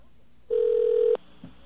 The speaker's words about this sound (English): Okay, we got a dial tone there? Dialing 211.